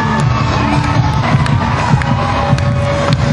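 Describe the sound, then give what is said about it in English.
A sold-out concert crowd screams and cheers continuously at full volume, a dense, roaring wall of voices with sharp shrieks popping out above the steady din. “And as you can hear, everybody's screaming at the top of their lungs.”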